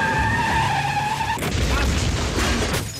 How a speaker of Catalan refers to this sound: Accelereu a la vegada i xoqueu. O més ben dit, el seu Maserati de 6 metres impacta contra el teu modest utilitari i pel soroll ja saps que com a mínim t'ha aixafat les llums i el paraxocs.